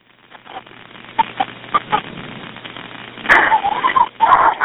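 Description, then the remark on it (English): A dog barks in the background over a muffled, phone-quality line during an emergency call, while people try to get the dog: a few short, sharp barks first, then louder, more drawn-out yelping barks near the end. No one speaks. “Yes, there are some people that have been trying to, like, get the dog, and they're going to throw it out.”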